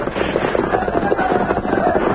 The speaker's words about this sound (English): toward the stalled railroad train, the sound of gunfire increased.